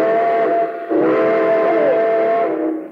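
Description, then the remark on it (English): A steam train whistle blows loud in one long, sustained chord as train number 31 departs from track 3, its tone dipping briefly before swelling again and holding for about three seconds. No voices. “Train number 31, the cinder bucket, now leaving on track 3.”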